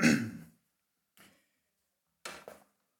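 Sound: throat clearing and coughing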